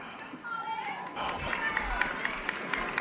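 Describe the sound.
A crowd cheers and chatters in the background, a dense steady wash of many voices, with faint regular taps like running footsteps over the second half.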